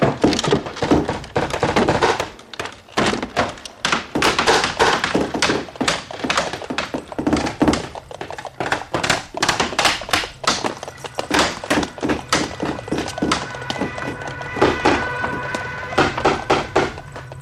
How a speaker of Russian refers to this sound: А сколько у нас всего открытых окон? Все открыты. Ни в чем меры не знаем. Ну что же, открытые окна будем закрывать.